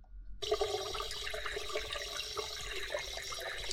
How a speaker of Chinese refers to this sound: 我先帮哥哥沾沾水吧。我们先把水龙头打开。